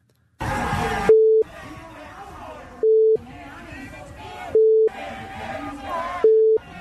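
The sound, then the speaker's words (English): Antifa protesters chant an obscene chant over and over, targeting a journalist by name, while four loud, steady, mid-pitched censor bleeps cut in at even intervals, each lasting a fraction of a second and masking parts of the chant. “We had to bleep it a little bit because it's not fit for air.”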